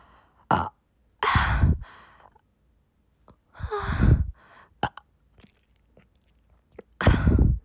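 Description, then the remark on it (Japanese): Mouth and throat noises: several breathy exhales and sighs, with a low, rumbling burp in the middle and no talking, from a person who has just drunk about one liter of water in a water-drinking challenge. “あ、ゲップ出る、ゲップ。”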